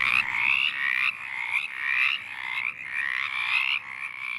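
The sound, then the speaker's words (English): A chorus of mountain chorus frogs calling steadily, their raspy, trilling notes overlapping in repeated pulses, fairly loud with no voices present. “That call of mountain chorus frogs opens an episode”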